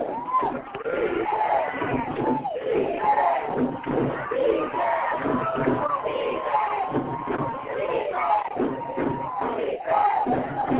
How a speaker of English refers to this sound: This really is a make or break play. If Modesto is going to pull this thing out, they absolutely must make a stop here. And the crowd for Modesto comes to their feet.